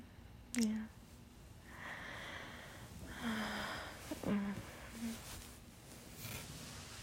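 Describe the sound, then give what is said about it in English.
Several heavy, airy breaths with a noisy, hissing quality, some with a snorting or wheezy edge, rising and falling in slow irregular rhythm over low background noise. “What? I'm just breathing.”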